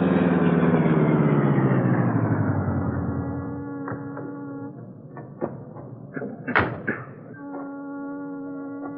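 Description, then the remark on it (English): The powerful streamlined car, the Black Beauty, winds down loudly as it slows to a halt in the shadows at the docks at the foot of Water Street, then settles into a low idle, followed by a few sharp clunks and thuds. “There, the powerful streamlined car was brought to a stop in the shadows.”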